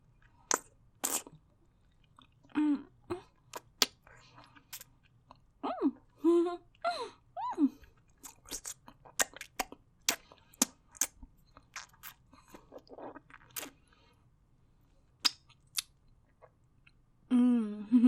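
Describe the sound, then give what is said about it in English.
Someone chewing ice cream with wet smacks and sharp crunchy clicks at an irregular pace, broken by brief high-pitched vocal squeaks and hums in the middle. No words are spoken. “I swallowed it all, mister. I really like the taste of your ice cream.”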